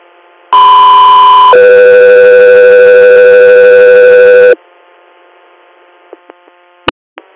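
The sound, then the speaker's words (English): A loud two-tone radio dispatch alert for air unit Echo 3: a steady higher tone for about a second, then a longer, lower steady tone for three seconds, followed by faint hum and a few sharp clicks. “Echo 3, stand by for tone.”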